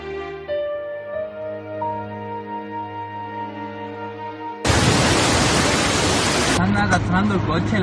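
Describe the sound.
Sustained musical tones give way to a sudden, loud roar of rushing floodwater from a flash flood in Mallorca sweeping a car away, and the driver, a man, shouts agitatedly over the torrent near the end.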